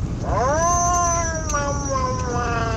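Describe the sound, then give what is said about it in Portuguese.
A cat lets out one long, drawn-out yowl that rises then slowly sags, sounding agitated over a steady low background rumble. “É um gato. É um gato irritado.”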